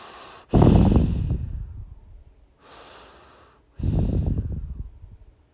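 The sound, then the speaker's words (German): A small blond boy lying in his bed with his eyes closed breathes slowly and steadily in sleep: two fuller, slightly snuffly breaths with a softer one between, each airy rush trailing off gently, with no talking. “Man hört ihn ganz ruhig atmen.”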